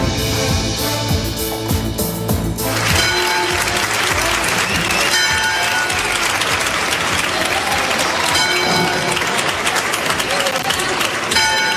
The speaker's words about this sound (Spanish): Con este sonido de campanas y entre aplausos, las puertas de la Basílica de la Esperanza Macarena de Sevilla abrían el lunes para que los más fieles que pudieran hacer la cola durante toda la madrugada visitaran 4 meses después la imagen